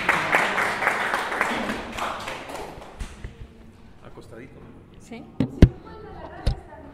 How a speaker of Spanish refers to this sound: Entonces, pues, démosle la bienvenida a ella y a él, por favor. Con un aplauso también, no sé, están así.